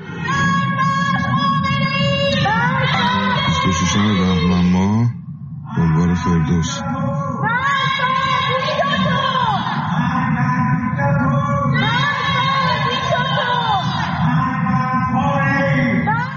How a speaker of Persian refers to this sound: پس از سرکوب‌های شدید در این دو روز اعتراضات فروکش کرد، اما در روزهای اخیر شهروندان شب‌ها از پنجره خانه‌ها و پشت بام‌ها علیه رهبر جمهوری اسلامی شعار سر دادند.